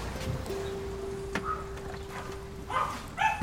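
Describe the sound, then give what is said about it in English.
A small dog lets out a few short, high yaps at a house as visitors walk up, most clearly near the end, over a steady thin tone and faint background noise. The sound is fairly quiet. “An audacious dog.”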